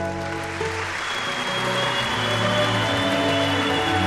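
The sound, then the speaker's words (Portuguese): Ordinary citizens packing the Senate galleries burst into sustained applause after a speech about the Estado Novo, with cheering voices and a long shrill whistle rising over the dense clapping, steady and loud throughout. “Os cidadãos comuns que lotavam as galerias do Senado foram ao delírio, com palmas, vivas e assovios.”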